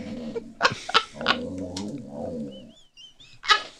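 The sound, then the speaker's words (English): A dog 'talks' in a run of warbling, moaning grumbles that rise and fall in pitch, followed by a few thin high whines and one last sharp vocal burst. “You've really taken to talking, haven't you? You were such a quiet, shy dog when you arrived. And now listen to you.”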